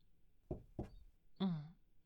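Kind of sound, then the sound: household object, knocking on a door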